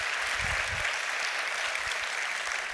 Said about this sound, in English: Will y'all give Samuel, I believe his name is, a round of applause here.